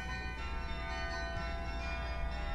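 Church tower bells ring out a chiming melody, their overlapping tones sustained and ringing together at a steady, moderate loudness with no voices present.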